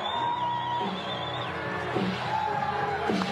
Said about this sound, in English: So they continue kind of booing. The music plays hard to hear